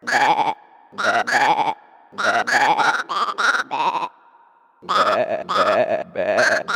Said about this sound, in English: This is just a flock of sheep corralled into a wooden frame. That is not a requiem.